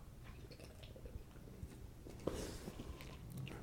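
Someone takes a quiet sip of beer: soft wet mouth noises and slurping, a sharp little gulp partway through, then faint swallowing. No talking.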